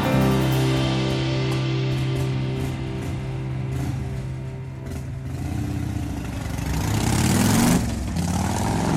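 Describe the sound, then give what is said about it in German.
A motorcycle engine idles with a steady throbbing hum, then revs hard and roars away, loud at first. No one speaks. “Zo, die gaat er met de motor van tussen.”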